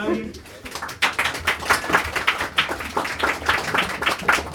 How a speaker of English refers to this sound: I suppose I've won my approval already, have I? I don't need to do anything else, you know, I've got the applause, so thank you very much,